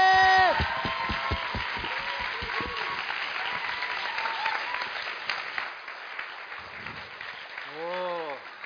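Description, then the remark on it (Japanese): An audience at a church youth conference in Japan breaks into steady, dense applause to welcome a pastor, carrying on for several seconds, with brief vocal whoops rising above the clapping at the start and again near the end. “どうぞ皆さん拍手でお迎えください。”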